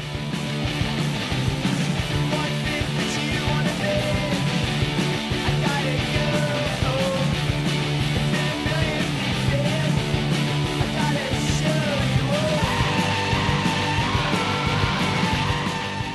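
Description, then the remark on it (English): A loud, shrieking punk rock song plays continuously, with dense distorted guitars driving propulsive riffs and strained, high vocal lines over a steady, pounding beat at constant volume. “As somebody who's thrilled to propulsive punk riffs for 35 years, I want to testify that the shrieking tunelet you just heard is the coolest new one I've encountered in this century.”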